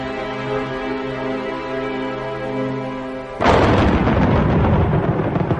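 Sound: thunder clap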